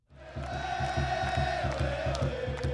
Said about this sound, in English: Here at Quest Field, where the Sounders play, the place has the feel of a World Cup soccer final. Every seat is sold out, and the cheering is deafening.